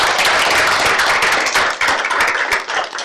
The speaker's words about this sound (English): And he is not here today, but if we could give him a round of applause.